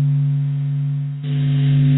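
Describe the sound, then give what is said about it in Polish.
A low, steady electronic drone of the Sun's vibrations, sonified from SOHO space probe data, with sustained humming tones that shift about halfway through into a rougher, hissier texture. It is continuous and fairly loud, with no voices. “To wibracje słońca.”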